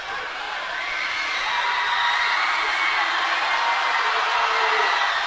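A loud, sustained roar of a crowd cheering and whooping in a basketball gym during a free throw late in a close game, a dense wall of voices that holds steady and swells slightly over several seconds.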